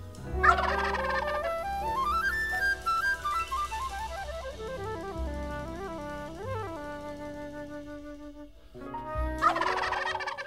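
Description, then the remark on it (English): A wild turkey gobbles in a loud, rattling burst, then a sliding whistled melody plays before a second gobbling burst closes things out. “Although we didn't see any wild turkeys, I bet they're here, and I bet they saw us.”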